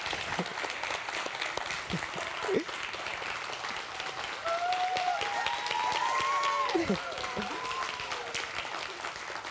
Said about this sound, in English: The applause isn't done yet, though, because I would like to have a round of applause